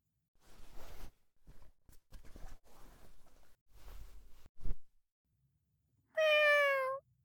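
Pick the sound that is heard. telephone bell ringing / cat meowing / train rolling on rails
cat meowing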